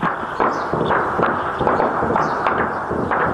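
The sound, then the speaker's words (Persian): Repeated sharp bangs and cracks of gunfire and explosions in parts of northern and southern Khartoum, Sudan, during fighting between the army and a paramilitary group, coming in irregular bursts over a constant loud rumble, with no voices heard. “یک روز پس از آغاز درگیری در سودان، صدای انفجارها و تیراندازی در بخشای از شمال و جنوب پایتخت خرطوم شنیده شد.”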